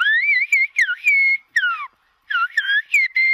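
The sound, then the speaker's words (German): Silbo Gomero whistled language: a clear whistle rising and falling in short syllable-like bursts, broken by a brief pause midway, with no talking. “man pfeift Silben, man hört eine Sprache und trotzdem klingt diese Sprache wie Natur, wie Vogelgesang, wie Klänge.”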